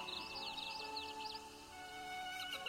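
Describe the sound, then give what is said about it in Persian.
A bird sings a quick run of bright, repeated chirping notes, then falls quiet, over a soft, steady sustained tone in the background. “صدای پرنده ها شنیده میشن چون تو وجود داری.”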